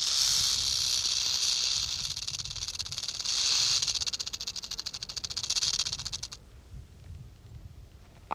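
A rattlesnake's rattle buzzes loudly in a steady, dry hiss, pulsing slightly in intensity, before cutting off abruptly and leaving faint background noise.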